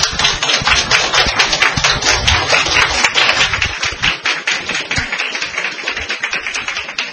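A crowd claps steadily for several seconds, a dense, even patter of many hands at a fairly loud level that eases slightly toward the end, with no voices over it.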